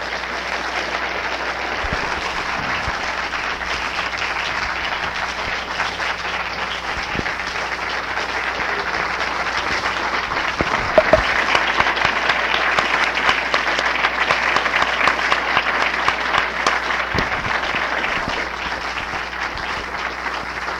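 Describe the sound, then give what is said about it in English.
Sustained applause from a large audience after an award is presented by university officials, a dense, steady wash of many hands clapping at even loudness for about twenty seconds, swelling slightly past the midpoint, with no one speaking. “would you like to respond to this round of applause in any way other than your usual modesty?”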